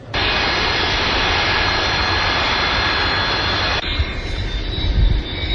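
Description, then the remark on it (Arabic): A loud Iraqi Airways Boeing 737 jet airliner, arriving from Damascus and landing at Baghdad International Airport, roars with a steady high whine, holding constant before abruptly dropping into a rougher, lower rumble near the end. No one speaks. “طائرة الخطوط الجوية العراقية تهبط في مطار بغداد الدولي بعد انقطاع دام لأكثر من 15 عاما.”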